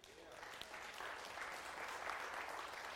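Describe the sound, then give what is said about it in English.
A church audience applauding together, a steady wash of many overlapping claps that holds at a fairly even loudness throughout, with no individual voices standing out. “How many of you have enjoyed your study of Galatians? Let's clap.”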